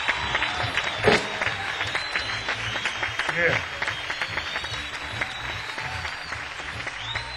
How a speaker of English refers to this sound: Sincerely hope you've enjoyed as much as we've enjoyed playing for you, although I'm kind of hoarse. Couldn't really get with it. If you did, let's get a band a big round of applause, ladies and gentlemen.